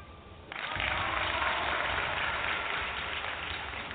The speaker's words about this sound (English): Sorry, you had to wait for the clapping.